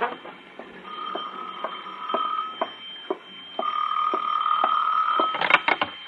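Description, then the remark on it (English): A telephone rings again at 6:05 in two long, buzzing bursts with a short pause between them, fairly loud, followed by a brief clatter at the end. No one speaks. “It was 6:05 when the phone rang again.”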